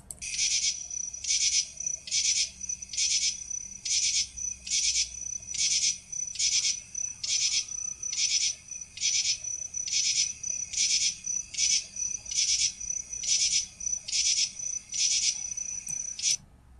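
A common true katydid calls in loud, raspy pulses repeated in a steady rhythm, each burst harsh and buzzy rather than musical, with faint background hiss.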